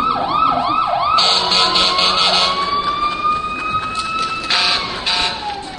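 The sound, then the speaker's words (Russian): A loud fire engine siren wails as the engine races to a fire, opening with several rapid rising yelps before shifting into a long, steady rising tone, with a busy background rumble and no talking. “Чуть только ночью или днем дадут сигнал тревоги. Лихой отряд борцов с огнем несутся по дороге.”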